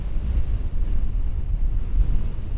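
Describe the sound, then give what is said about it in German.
A storm wind in Alaska during the polar night, whipping fine snow, blows steadily and loudly, a deep, continuous rumble that surges slightly without pause, with no voices or other sounds breaking through. “Aus dem Wind kein Ton.”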